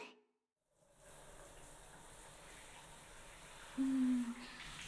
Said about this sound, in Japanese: 温度はこれくらいかな。はい、一回シャワーで流すよ。暑かったら行ってね。肩と首のところも。